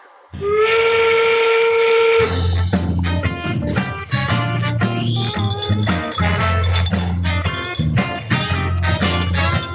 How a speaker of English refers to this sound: Expert Factory is now open for business. Sound the whistle.